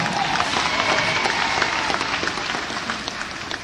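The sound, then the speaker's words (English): A crowd applauding steadily, dense rapid clapping spread across a broad hiss-like wash, holding loud and even before easing slightly toward the end. “Give him a big round of”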